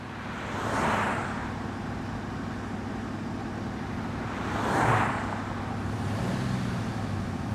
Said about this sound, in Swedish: Nej. Inte minsta lilla missljud. Motorn den spinner som en katt. En Cadillac, den kan man lita på.